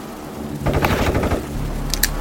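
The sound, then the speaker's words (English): A rapid burst of several gunshots fired in quick succession from inside a home, muffled and booming, lasting about a second before fading into a low rumble. No one speaks. “It appears that gunshots have just been fired from inside Mr. Washington's home.”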